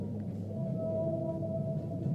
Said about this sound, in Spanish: Son ballenas, chicos, así suenan. ¿Habían escuchado alguna vez ballenas? Miren, miren cómo se escuchan abajo del agua. Es un sonido abajo del agua. Tampoco es muy frecuente escuchar esto.